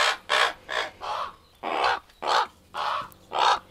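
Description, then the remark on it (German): Ten young ravens in a spacious aviary at the Max Planck Institute for Ornithology in Seewiesen near Lake Starnberg give a run of about eight harsh, hoarse calls in a steady rhythm, each a short raspy burst, clear with no talking. “Ein weiträumiges Gehege voller Raben am Max-Planck-Institut für Ornithologie in Seewiesen nahe dem Starnberger See.”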